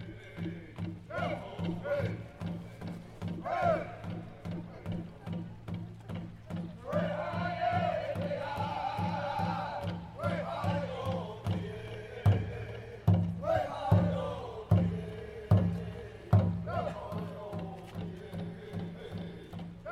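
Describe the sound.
A crowd of marchers heading downtown towards the statue of John A. Macdonald, the first Canadian Prime Minister, with a steady rhythmic pounding of drumming and swelling waves of chanting, singing and shouting voices over a low continuous drone.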